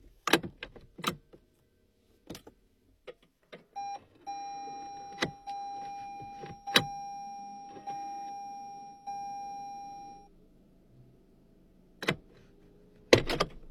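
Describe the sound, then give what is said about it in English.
A hybrid car, parked too far over into the bushes, is started and moved over: a few sharp door and handle clunks, then a steady electronic tone and a low, quiet drive hum with no engine roar, ending in more clunks. “I can't leave the car here. I gotta move it over.”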